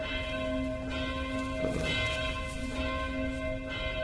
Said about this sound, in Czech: Do toho nám zvoní krásně zvony, které svolávají na další bohoslužbu.